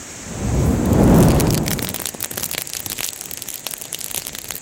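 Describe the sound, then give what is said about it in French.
A fire catches from an ember fanned by hand, with a low, swelling whoosh that rises and fades over the first two seconds, then gives way to steady, dense crackling full of sharp little snaps and pops. “Et puis on entend que ça monte, quoi. On entend les crépitements.”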